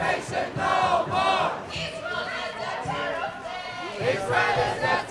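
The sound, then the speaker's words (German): At a Nakba Day demonstration in the capital, demonstrators chant "Israel is a terror state" in loud unison, many voices shouting the same rhythmic phrase together in repeated bursts, with the chorus rising and falling steadily throughout. “In Sprechchören rufen die Demonstranten: Israel ist ein Terrorstaat.”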